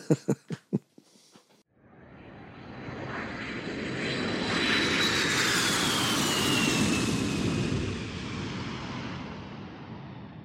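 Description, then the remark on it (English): Airliner jet engines roar steadily with a high, gliding turbine whine as the plane taxis to the gate after landing, swelling through the middle and easing off at the end, after a few short thumping bursts at the start. “Brakes to park. JetBridge is coming up to the airplane.”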